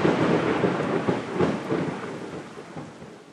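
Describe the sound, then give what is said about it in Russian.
A loud, sustained rumble of May thunder from the first thunderstorm rolls on without pause, swelling and easing slightly, with a steady hiss of rain underneath. No voices are heard. “Смолкли птичьи голоса, майский гром грохочет.”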